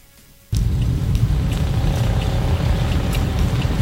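An unplated single-engine motorcycle of 125 to 200 cc, ridden in the middle lane of Avenida Paralela with riders in helmets, suddenly roars in after a brief quiet moment and keeps running, a loud, steady rumbling drone with no voices.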